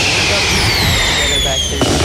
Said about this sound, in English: Fireworks! Victory!